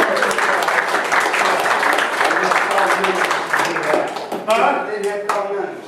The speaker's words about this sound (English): I am so proud that this music staff of our church represented our church well. Our two, huh? Give them a hand of applause.